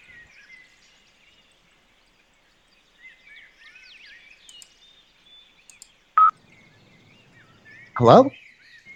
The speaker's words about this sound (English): Are those crows? Yeah, bro. Holy shit.